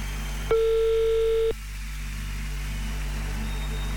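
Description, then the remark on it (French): A single one-second ringback tone sounds on an outgoing phone call to someone in Moudon, a steady mid-pitched beep followed by silence, over a low constant hum. “C'est parti. Ça sonne. Ça devrait sonner.”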